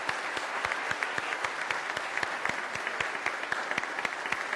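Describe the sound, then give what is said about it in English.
A church audience claps steadily for the children, with a dense wash of many hands and sharper individual claps popping through at an even pace, with no voices over it. “If you are an older person in this congregation and you believe that too, let's start clapping for these kids.”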